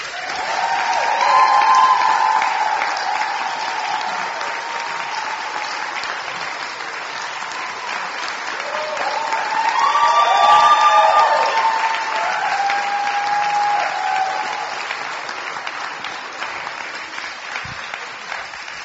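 A crowd at a festival of queer artists in L.A. claps steadily for nearly twenty seconds to welcome the special guests and hosts, a dense rush of applause that swells midway with a few whoops and cheers mixed in, then carries on without slowing down.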